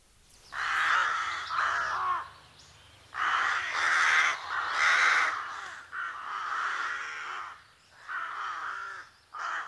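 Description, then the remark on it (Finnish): A carrion crow caws repeatedly in harsh, grating bursts, about six or seven loud calls in an irregular rhythm, clear with no other voices. “Maanantai-aamun lähetyksen päättää viikon luontoääni, musta varis.”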